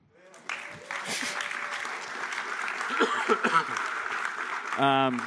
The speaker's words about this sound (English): The claps.